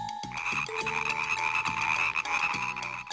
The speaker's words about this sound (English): Bingo! It is a green frog.